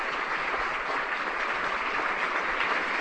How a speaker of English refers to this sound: And with that applause today